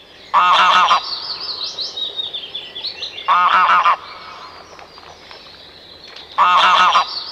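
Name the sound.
greylag goose honking calls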